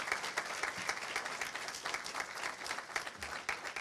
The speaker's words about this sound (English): And so we'll give her a round of applause. There we go.